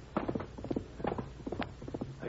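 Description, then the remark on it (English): Hooves of a chestnut horse clip-clop in a steady, uneven rhythm in the dark, a run of sharp hollow knocks drawing closer over a faint low background hum. “That's that chestnut horse he rides.”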